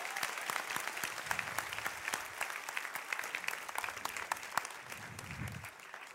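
An audience gives itself a strong round of applause, clapping steadily, a dense rattle of many hands sustained for several seconds, with faint voices murmuring underneath.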